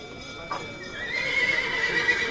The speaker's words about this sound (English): The start of sales at Argentina's biggest cattle auction, the Mercado de Liniers. A scrum of buyers bids on some of the 10,000 animals in the stalls and stalks the yammering auctioneer.